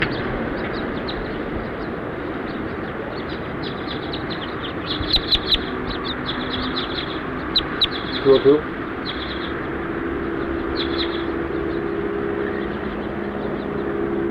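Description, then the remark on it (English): House finch calls ring out as the finches fly over, in two quick bursts of short, bright chirps, a few notes each, standing just above a steady, busy background of other birds and clucking fowl. “As house finches flew over.”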